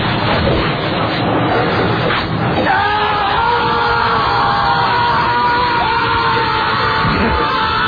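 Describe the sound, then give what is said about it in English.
In a candy bar commercial, a man lets out a long, loud, sustained scream over a noisy, crowd-like background, the yell holding steady for several seconds before breaking off near the end. “It's the scream that sells that.”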